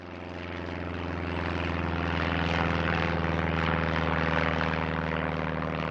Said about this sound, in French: Un avion passe au-dessus du lac.